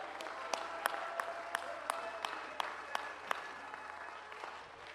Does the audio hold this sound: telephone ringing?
no